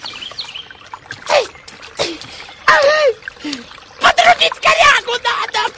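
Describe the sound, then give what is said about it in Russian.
Water splashes and sloshes in irregular bursts as a man, having undressed, climbs into the water, with brief vocal sounds mixed in between the louder splashes. “Раздевшись, … дает себе остынуть и лезет в воду.”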